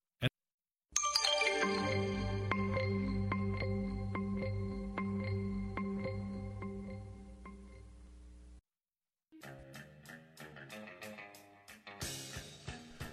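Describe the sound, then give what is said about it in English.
An upbeat 1980s new wave pop song plays, opening on a bright sustained synth chord over a steady pulsing beat, then briefly cutting out before staccato keyboard notes resume. No voices are heard. “I had to admit I loved this song when it came out.”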